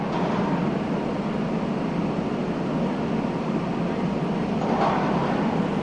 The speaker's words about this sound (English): That quiet street? It's Times Square in New York City.